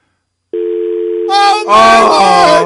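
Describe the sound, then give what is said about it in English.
After a brief silence, a steady, unbroken telephone dial tone hums loudly and continuously, and midway through excited voices break in over it while the tone keeps droning underneath. “The sweet noise of a dial tone.”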